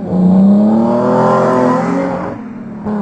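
A loud manual transmission car engine revs up with a rising pitch, holds a high whine, then drops off briefly as if shifting gears before climbing again. Prominent, no voices.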